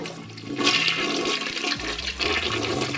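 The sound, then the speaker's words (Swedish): A toilet flushes: a loud surge of rushing water builds quickly and keeps roaring and gurgling steadily for a few seconds, with no voices. “Det är ju väldigt slösigt att använda renat dricksvatten i toan till exempel när man spolar.”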